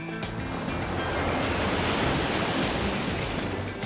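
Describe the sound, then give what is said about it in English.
Big ocean waves break steadily on a beach, a loud, continuous rushing surf that swells slightly and then holds, with no voices present. “They are now at the beach. Okay, kids. Don't swim in the water by yourselves. The waves are kind of big today.”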